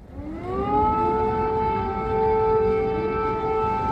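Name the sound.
air raid siren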